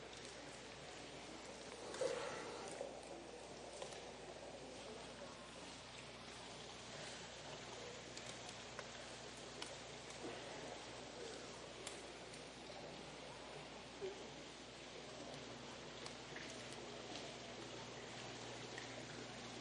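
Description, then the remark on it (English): Water pours steadily into a container, a continuous splashing rush that holds even for about twenty seconds, moderately loud, with no voices over it. “Dump it all in. Don't leave any. Got to fill it back up when it's time.”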